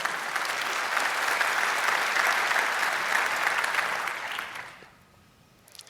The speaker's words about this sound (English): And other than that, please have another big applause for